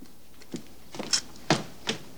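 A fridge door opens with a soft click and a few light knocks and rattles as a man takes out some orange juice, quiet, spread over a couple of seconds with no talking.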